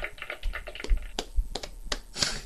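A single person claps their hands several times in an uneven rhythm, giving themselves applause while taking a shot; the sharp slaps are fairly quiet, with no one speaking.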